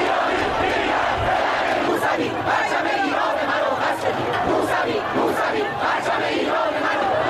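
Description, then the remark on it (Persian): A large protest crowd at a civil protest march of the year 88 (Iranian calendar) shouts and chants, including cries of "Give me back my vote", in a dense, continuous roar of many voices, loud and steady throughout, with rhythmic surges and occasional sharper cries rising above the mass. “سال 88 سال اعتراض مدنی بود، راهپیمایی سکوت و فریاد رأی منو پس بده، سالی که به سال بلوغ سیاسی جامعه مشهور شد.”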